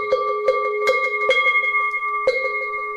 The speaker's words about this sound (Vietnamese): Thì thầy này là chúng ta ba hồi chuông, hai hồi xuống và một hồi lên.